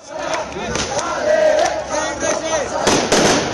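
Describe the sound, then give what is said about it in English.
Several sharp firecracker bangs burst out at irregular intervals over a loud, shouting crowd of demonstrators arriving in the central square of Cochabamba, Bolivia, with the cracks loudest near the end. “Firecrackers announced the arrival of a diverse array of demonstrators into the central square of Cochabamba”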